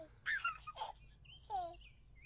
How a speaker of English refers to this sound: That's literally just a child crying. Yeah, but if you knew what it was... Is it Teletubbies? Yes, Teletubbies! Oh. That is it. Like, the little kid in the sun.